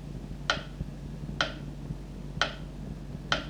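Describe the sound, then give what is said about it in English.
A clock ticks four times at a steady one-second pace, each tick sharp, over a low, constant background hum with no voices. “Still I scream when time ticks.”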